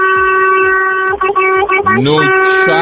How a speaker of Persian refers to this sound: یه بوقم برای تو بزنم حالیش رو ببریم.